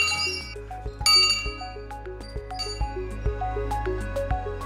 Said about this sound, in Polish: Ten dzwon słyszał pewnie Jerzy Będkowski. No tak, bo to jest oryginalny dzwon.